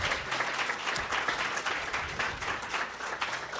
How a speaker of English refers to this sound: So we wanted to welcome you, and how about another round of applause for a truly talented and incredible scholarship class.